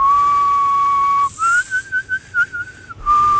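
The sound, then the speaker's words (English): A person whistles a clear tone with the tongue in a U-shape, holding a steady note, then warbling a slightly higher pitch in short wavering bursts before settling back to the first note. No one speaks. “You put your shoulder like a U-shape. A U-shape. And then I can whistle.”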